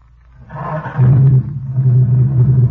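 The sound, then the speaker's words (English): A car engine, just repaired with rebored cylinders, new rings, new spark plugs and a new fan belt, turns over and catches, roaring roughly at first. It then settles into a loud, steady, low-pitched idle with an even drone and no voices. “Now, let me hear that motor.”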